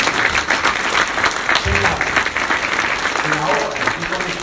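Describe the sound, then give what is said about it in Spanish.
An audience at an evening religious gathering applauds steadily throughout, a dense, even wash of clapping with a few voices calling out faintly underneath. “Si terminamos esta noche, le damos aplauso a mi cuerpo.”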